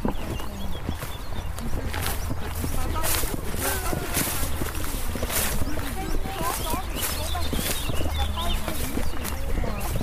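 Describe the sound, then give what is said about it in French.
Lots of birds, including a common chiffchaff, chirp and warble together outdoors on a former river island on the banks of the Loire at Montlouis-sur-Loire, France, in a steady, busy chorus, mixed with a low rumble of background noise, faint voices and some intermittent knocking or thumping sounds. “Là, on a la chance d'être dehors, on entend plein d'oiseaux.”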